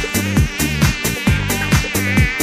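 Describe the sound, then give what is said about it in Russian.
A dense, nasal midge-like buzz drones loud, swelling and dipping in a steady pulse about twice a second, with no voices. “Руки мне залезли, мошка, и жужжи там жу-жу-жу.”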